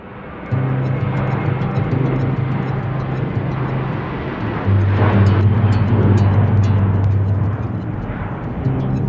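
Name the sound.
airplane flying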